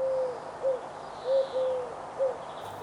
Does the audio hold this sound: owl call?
yes